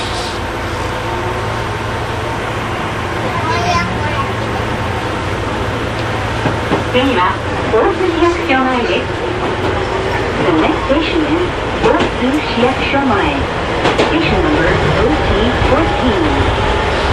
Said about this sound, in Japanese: この電車2両編成なかなかたまりません。初めて乗ります。さあ今電車の中に入りました。やはりこうグリーンのこう抹茶をイメージしたような京阪カラーなかなかたまりません。